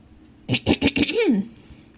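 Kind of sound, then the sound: human body sound, throat clearing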